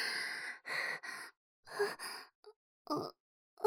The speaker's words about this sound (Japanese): 勇者様、どうして泣いているんですか。大丈夫ですよ。